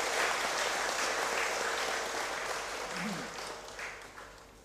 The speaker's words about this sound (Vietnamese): Xin cho một tràng vỗ tay thật lớn để tán dương chung.